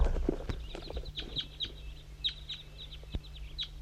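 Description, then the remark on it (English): A flock of about ten crossbills calling down in a hollow, a steady scatter of short, sharp, high chip notes overlapping at irregular intervals over a low, steady background rumble. “5 3's coming for the flock and crossbills down in the hollow.”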